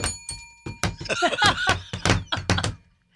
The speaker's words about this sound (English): Suddenly, they heard faint footsteps.